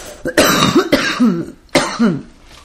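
Three harsh coughs in quick succession from a person on air, each ending in a raspy, throaty rumble like clearing the throat, with no talking in between.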